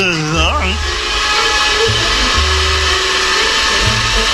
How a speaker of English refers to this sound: Humping Jehoshaphat and distortion and feedback. That's the vacuum cleaner. Oh, yes, yes. So it is. The vacuum cleaner.